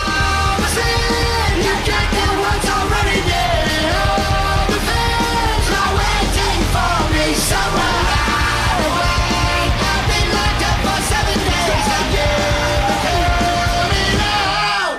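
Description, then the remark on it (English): A loud, dense heavy metal song with screamed, yelling vocals over pounding drums and distorted guitars, driving steadily and at full volume throughout. “also featured on …”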